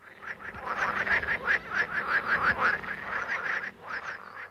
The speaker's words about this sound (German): Und den Weinkeller, wo die Kröten unkten.